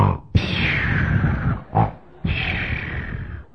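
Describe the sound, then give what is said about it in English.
A man's voice imitates the loud, rasping snores of a sleeping king from the story of David: two long, harsh, gravelly breaths separated by a short snort, rough and growling in tone, with no other talk. “He saw that king asleep. Sound asleep. And the king was snoring.”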